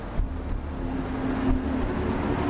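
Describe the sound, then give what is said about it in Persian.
A car's low, steady engine and road rumble fills the interior, with a faint hum and gusts of wind noise as the vehicle rolls to the side of the road. No one speaks. “باید ماشین رو بزنیم کنار.”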